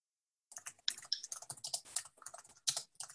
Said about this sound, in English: Somebody's typing.